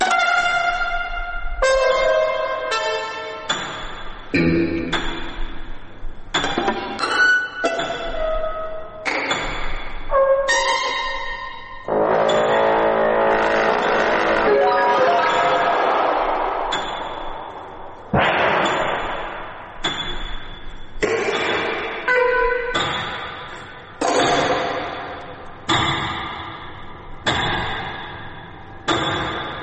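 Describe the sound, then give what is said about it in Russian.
A contemporary music piece by the German avant-garde composer Lachenmann, built on a loud, repeated strike intended by the composer: sharp, ringing chord-like blows that stop abruptly, recurring at irregular intervals with brief silences and a longer sustained passage between them. “Но вот когда они услышат, наши слушатели, вот этот повторяющийся удар, это не у нас заело, это так задумано автором.”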